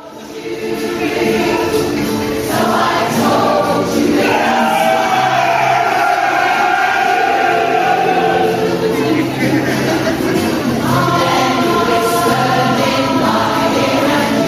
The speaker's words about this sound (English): Such a like blood curdling scream. It's such my favourite football chant. It's just so like primal. It sounds like a sort of walrus mating call. Because they're just going meh.